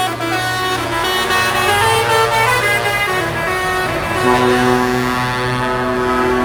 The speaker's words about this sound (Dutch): En mensen in oren. Want sommige klaksons die komen toch iets harder binnen dan anderen.